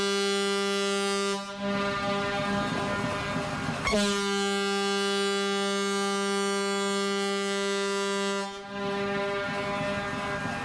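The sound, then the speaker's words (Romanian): A ship's siren horn sounds in loud, deep, steady blasts, one after another with only brief breaks between them, its rich low tone sustained throughout, with no voices present, as the ship leaves the port of Hamburg on a Saturday morning, heading along the Elbe toward the North Sea. “Am părăsit portul Hamburg sâmbătă dimineață în sunetul sirenei”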